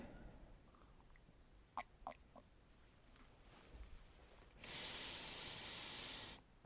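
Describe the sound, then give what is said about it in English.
A few quick soft clicks and clinks, then a loud, airy slurp lasting under two seconds as someone takes a first sip of hot coffee, with no talking. “first sip.”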